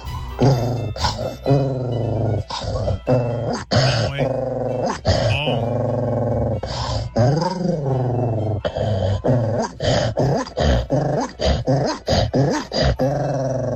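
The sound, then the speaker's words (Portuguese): A person's voice mimics a dog, producing loud, rapid bursts of barking mixed with throaty growls, nearly continuous for the whole stretch. “Cachorro, imitando o cachorro.”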